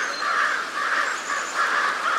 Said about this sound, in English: So, when a mobbing flock of crows teams up on an eagle, they're not only drawing attention and chasing off a potential danger, they may also be giving young crows an important lesson in bird identification.